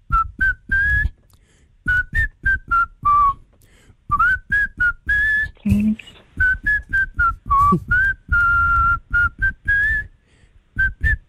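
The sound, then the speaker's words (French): A man whistles a bouncy pop melody by a French artist, clear, in quick phrases of short staccato notes broken by brief pauses, with a few longer held tones. “Il va siffler pour vous ce matin, pour vous faire deviner un artiste français qui se cache derrière son joli sifflet de rossignol.”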